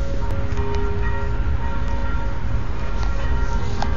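Church bells of the Church of St. Roch (Święty Roch) ring with sustained, overlapping tones under a dense wash of steady background noise. The bells sound blended rather than struck one by one, and no one speaks.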